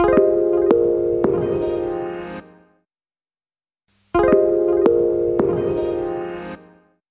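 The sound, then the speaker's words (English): A steady telephone tone sounds in two identical bursts of about two and a half seconds each, separated by a stretch of silence, clear, with a few faint clicks, as someone makes phone calls to ask for donations for a charity appeal. “So, why don't you listen to their dialogue one more time while I make some phone calls to ask for donations for my friend's charity appeal?”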